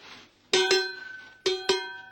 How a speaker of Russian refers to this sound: я случайно в каком-то комиссионном, там же в Голландии, раздобыл такой вот, ну, колокольчиком это нельзя назвать, потому что почти что колокол. Я вам сейчас его покажу. Вот он у меня здесь висит.